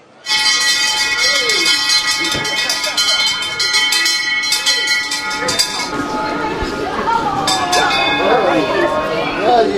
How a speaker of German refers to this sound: Und dann ist die Türe auf, die Liebsten haben mit ihren Glocken geläutet